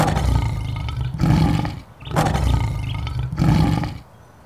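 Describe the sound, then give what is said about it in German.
A lion in a wildlife park roars loudly in two long rumbling bursts, each swelling with a heavy low growl before a short pause. “Guten Morgen, Löwe.”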